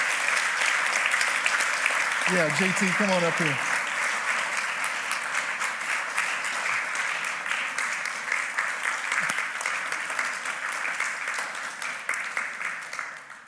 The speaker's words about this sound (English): if you had a kid in children's ministry, this includes you, I just want you to stand up, just kind of just show her a thank you real quick. So, yeah, you can clap. There's some of you like, can we clap? Yeah.